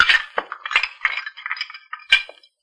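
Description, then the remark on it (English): Dirty dishes clink and clatter in a quick, irregular series of bright knocks as they're stacked and gathered to take out into the kitchen, with no talking. “Might as well get some of these here dirty dishes out into the kitchen.”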